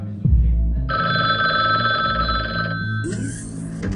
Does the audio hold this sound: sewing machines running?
no